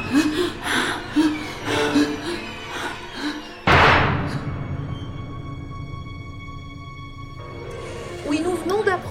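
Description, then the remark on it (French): A toilet door slams shut with one loud bang midway, leaving a lingering ringing decay. Hurried voices are heard before the slam and again near the end. “Accroche-toi à moi, on va s'enfermer dans les toilettes.”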